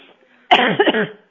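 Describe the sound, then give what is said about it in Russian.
A loud cough from an itchy throat: one harsh burst breaking into a couple of rough, raspy pulses, surrounded by quiet with no talking. “Все, блин, и кашель, и тихо, все на свете.”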